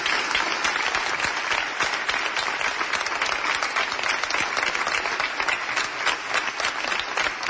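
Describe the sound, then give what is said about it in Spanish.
A crowd breaks into strong, sustained applause for the speaker's team, a dense wash of clapping hands that stays steady and loud for the whole stretch, with no voices standing out. “Por eso os pido un fuerte aplauso para estos valientes y estas personas libres.”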